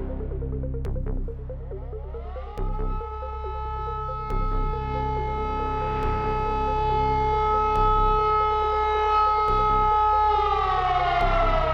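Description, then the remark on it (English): Air raid sirens wail steadily at sunrise, a sustained rising tone that climbs and holds loud over a rumbling low background, with no one speaking. “Sunrise and sirens.”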